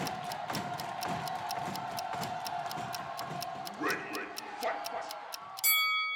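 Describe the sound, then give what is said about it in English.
A countdown clock ticks in a fast, steady rhythm over a low hum and murmuring background noise, then ends abruptly with a bright, ringing electronic buzzer tone. “That's the clock.”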